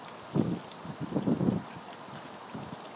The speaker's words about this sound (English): Oh, and that wind's getting up again.